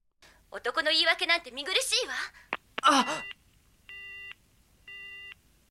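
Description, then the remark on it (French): A strained voice sounds briefly, then two evenly spaced electronic telephone beeps follow in the quiet after a call ends, each a steady, fairly loud tone lasting about half a second. “Après avoir raccroché”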